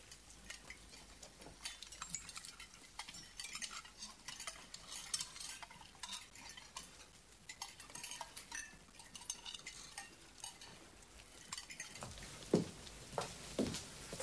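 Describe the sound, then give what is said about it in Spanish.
In a dining room, diners take spoonfuls of quail sauce, spoons scooping and scraping at the sauce while cutlery clinks lightly against plates, a steady scatter of small, quiet clicks and taps running throughout, with no one speaking. “En el comedor, el general toma una cucharada de la salsa de codorniz en sarcófago.”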